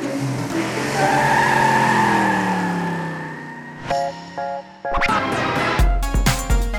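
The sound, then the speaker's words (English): NASCAR race cars roar and whine through a long skidding turn on a track, tires squealing loudly, followed by a burst of sharp screeches and engine revs as more cars slide past, making tight turns and avoiding the other cars. “train to safely drive around a track, making tight turns and avoiding the other cars for a long time.”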